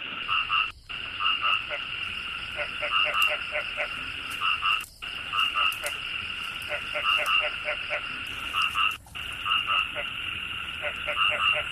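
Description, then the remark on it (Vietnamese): A dense chorus of frogs croaking, with steady overlapping rhythmic calls and pulsing trills that continue without pause, briefly cut by short gaps. “Vào mùa mưa, có nhiều thức ăn nên những chú ếch sinh sôi phát triển rất nhanh, con nào cũng to tròn cả.”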